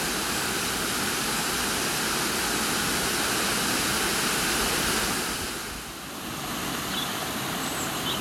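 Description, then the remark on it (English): A steady, loud roar of water at Poswith Gill Waterfall plunging down into the pool below, a dense continuous rush that dips slightly for a moment before surging back, with no voices. “And I've got this spectacular view over the ridge of the falls as the water plunges down towards the pool below.”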